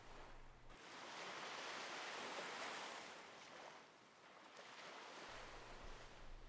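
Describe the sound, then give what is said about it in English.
Sea waves wash onto a beach in a broad, hissing rush that swells, holds for a few seconds, then eases back as the surf recedes. No voices. “The hazy sun, the sea, and the sand.”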